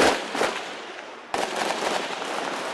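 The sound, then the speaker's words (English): Rapid gunshots crackle in dense, overlapping bursts at a hospital in Cité Soleil, fading slightly before a sharp, louder volley breaks out midway and keeps rattling on. No one speaks. “Then gunshots ring out, and everybody runs.”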